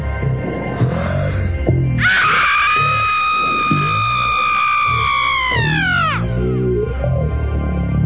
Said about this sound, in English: It's the fire, water, female birth scream. And this is about as close as I've been able to get.